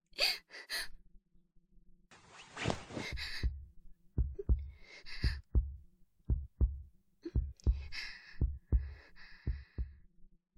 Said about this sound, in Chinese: 学长的怀抱好温暖啊，甚至还能听到学长扑通扑通的心跳呢。